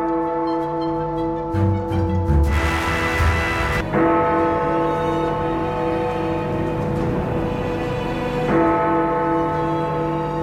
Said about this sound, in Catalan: Les parades ofereixen fruita, vi i queviures, mentre les campanes del Pi marquen el ritme quotidià.